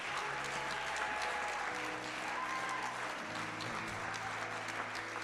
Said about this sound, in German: Können wir mal großen Applaus geben für alle, die den mutigen Schritt gemacht haben, ihr Lieben.